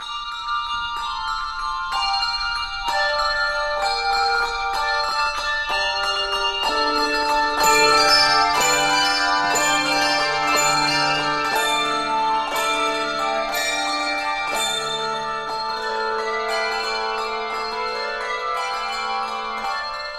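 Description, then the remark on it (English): A handbell choir rings out a lively carol melody, many bright bell strikes overlapping and ringing on, steady and fairly loud throughout with no voices. “Next, we go to handbells, which are very popular and very ancient as well.”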